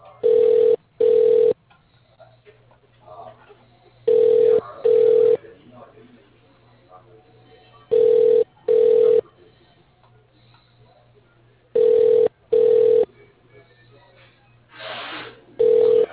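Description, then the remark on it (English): A phone ringback tone on a call being transferred to extension 218 repeats in paired bursts, two short steady tones then a pause, four times over, with faint background murmur between the rings. “To call this person, press 1.”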